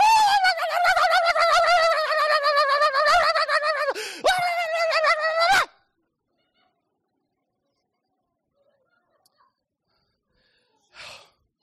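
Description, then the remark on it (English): A voice imitates an unhappy mother as a frantic, upset chicken that has lost all its eggs, a rapid run of high, harmonic clucks and squawks for about five seconds, broken by a sharp gasp, then silence and a brief faint breath. “No, she sounded a bit like a chicken who had lost all their eggs.”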